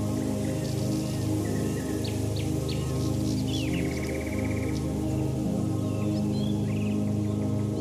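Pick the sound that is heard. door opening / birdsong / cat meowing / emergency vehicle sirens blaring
birdsong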